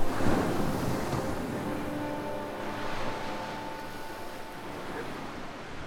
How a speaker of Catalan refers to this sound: En un dia clar, Luke passeja per la platja amb els peus descalços dins l'aigua. S'atura mirant l'horitzó i una onada li pentina els peus fins més amunt dels turmells.